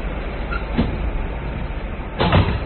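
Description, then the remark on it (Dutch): A door is unlocked and opened: a short click, then about a second and a half later a louder rattling swing of the door, all over a steady low background hum. “Wacht, ik zal de deur opensluiten.”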